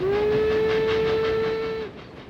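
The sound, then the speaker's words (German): A steam train's whistle blows one long, steady blast over the rumble of cars rolling on the rails, then cuts off, leaving the quieter clatter of the moving train on the railway to Tegernsee. “1902 fährt der Zug endlich auch bis nach Tegernsee.”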